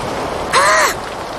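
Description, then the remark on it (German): A short, eerie gust of wind sweeps through, a loud whoosh carrying a wavering, whistling tone that rises and falls for under half a second, with nothing else around it. “Oh, da ist wieder dieser merkwürdige Wind.”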